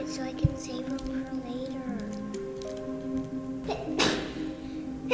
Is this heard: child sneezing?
yes